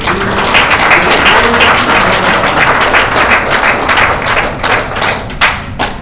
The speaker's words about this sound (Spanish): Si tu Dios nunca ha perdido una batalla, dale una gloria y dale un aplauso fuerte.